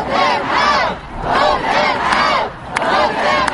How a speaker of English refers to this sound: Vote them out, one of the many angry lines a crowd in Washington shouted at politicians. These rallies were aimed at putting pressure on U.S. lawmakers to come up with better gun laws.